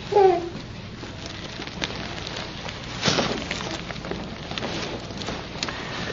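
Steady rain from storms rolling through patters continuously, a dense hiss of drops on a surface, swelling briefly louder about halfway through before settling back to an even downpour. No voices are heard.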